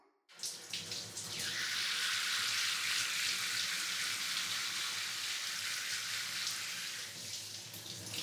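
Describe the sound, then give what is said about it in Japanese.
A shower sprays steadily, rinsing shampoo foam from someone's hair and scalp, a continuous hiss of running water starting abruptly and holding at an even level for several seconds, with no voices. “それではシャワーで流していきますね。”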